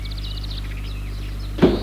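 A chauffeur opens a car door with a sharp latch clunk near the end, after the car stops in front of a terrace, following a high mechanical whirring over the low steady rumble of an idling engine.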